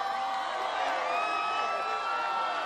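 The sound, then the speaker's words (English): An enthusiastic crowd at La Paz, the former home of Cesar Chavez in Keene near Bakersfield, welcomes President Obama. They cheer in a steady, sustained roar, with high whistles and whoops rising through the din for the whole few seconds, and no single voice standing out. “An enthusiastic crowd welcomed the president as he echoed the labor leader's signature, "Yes, we can."”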